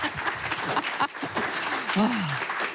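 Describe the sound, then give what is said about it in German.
Steady, dense audience applause welcoming the organizer of a festival that runs from Thursday to Sunday fills the whole clip at a fairly loud level, with a brief voice calling out over the clapping near the end. “Und begrüßen Sie ihn mit einem herzlichen Applaus und danach lassen wir uns gemeinsam schlau machen.”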